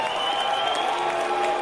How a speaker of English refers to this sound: Oh, we got some booing in there.